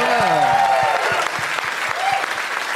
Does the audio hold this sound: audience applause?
yes